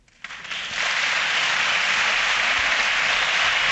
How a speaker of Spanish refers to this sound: Pues ahí está, el segundo nuevo diputado de la Asamblea de Madrid. Muy aplaudido por todas las bancadas.